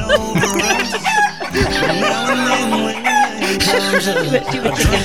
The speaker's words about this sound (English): A chicken screaming is always fantastic.